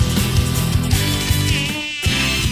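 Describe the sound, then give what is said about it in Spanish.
A fly buzzes loudly, a continuous droning hum whose pitch wavers and pulses, dropping out briefly near the end before resuming. No one speaks. “Pero esa es una mosca, no es una abeja.”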